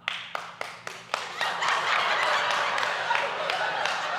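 A few sharp, evenly spaced hand claps from a boy clapping for his dad, then they blur into a continuous, dense burst of clapping and noise that carries on loudly to the end.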